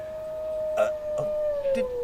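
A pack of wolves howling: one long, steady howl slowly sinks in pitch while a few shorter cries break in over it, at moderate volume.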